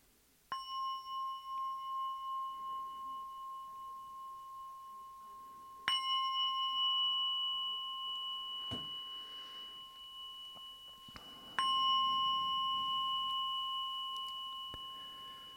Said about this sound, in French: Donc je vais lancer la guidance avec 3 sons de cloche.